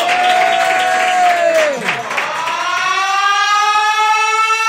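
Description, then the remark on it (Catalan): Loud, steady applause and cheering fill the scene while a wailing siren-like tone slides down in pitch and then rises again, sustained throughout a few seconds. “fort aplaudiment per Ramsès II, que entra al búnquer”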